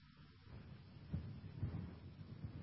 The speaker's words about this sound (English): And so I'm just pausing because playing in my ear is thunderstorms. And I'm sitting here on air, and there's thunderstorms going off in my ear. So I was asking the guys if they could hear that.